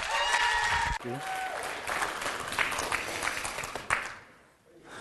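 Steady audience applause, a dense wash of many hands clapping at once, holding strong for several seconds before briefly thinning and then swelling again.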